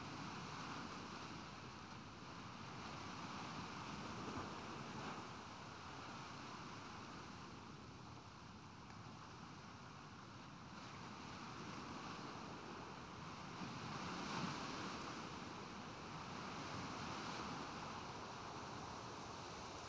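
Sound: ocean waves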